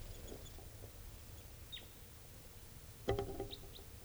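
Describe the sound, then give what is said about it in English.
A bird gives a few short, high chittering chirps, one sliding downward in pitch, plus a brief louder rattling burst, all fairly faint over a steady low background rumble. “I got another bird here, sort of chittering and going down.”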